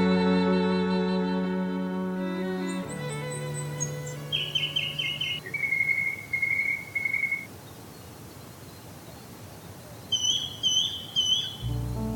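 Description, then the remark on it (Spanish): A natural soundscape of a mangrove swamp forest, where river fresh water mixes with the salt water of the sea: a sustained tonal hum fades out early, then high, thin bird calls and short chirping trills come in bursts over a constant low wash of ambient noise. “Voces de los manglares, paisaje sonoro natural.”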